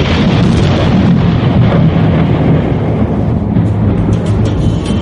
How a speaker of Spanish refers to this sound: Vamos a abrir acá para sentir el ruido ambiente de lo que es la lluvia.